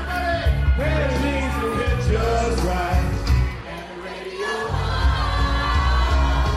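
A large crowd cheers and yells continuously in reaction to a team, including former players, testing their vocal cords, with individual whoops and shouts rising above the roar. The noise dips briefly midway before swelling loud again.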